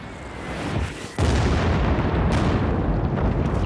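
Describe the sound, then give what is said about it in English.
Deep, rumbling explosions from a night bombing run by 48 B-52 bombers over Cambodia, dropping some 2,400 tons of bombs, roll together into a continuous thunderous roar, with a sharp jump in loudness partway through and dense low-end booms throughout. “The bombers drop a payload of some 2,400 tons.”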